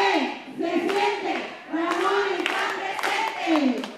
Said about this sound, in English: But then the payoff. He gets to hear the brand new campaign cheer.